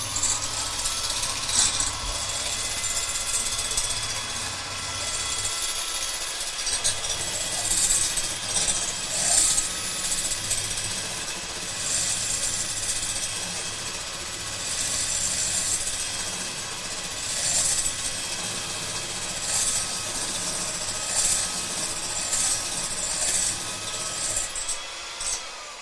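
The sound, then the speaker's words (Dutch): An electric hand mixer with beaters whirs steadily as it lightly whips cream, a continuous high buzzing motor with a gritty, rattling edge from the beaters, running for nearly half a minute with no one talking. “Maar nu is dat iets gemakkelijker met de kloppers.”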